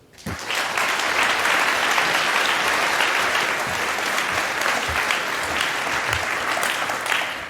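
Sustained audience applause begins abruptly and continues steadily at a loud, even level for several seconds, a dense wash of clapping hands with no speech over it.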